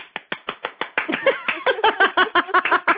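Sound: applause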